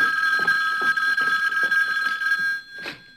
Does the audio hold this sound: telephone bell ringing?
yes